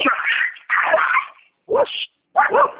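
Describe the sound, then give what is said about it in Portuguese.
Dogs snarl, yelp and whimper in a loud scuffle as a pitbull grabs a small dog out front, with four frantic bursts of noise separated by short pauses, and a person briefly exclaims over the commotion. “Cachorro tá brigando.”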